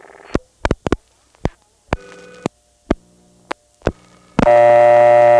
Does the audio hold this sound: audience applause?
no